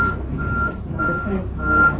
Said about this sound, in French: Ça c'est un camion. Un camion qui fait marche arrière. Qui fait un bruit comme ça.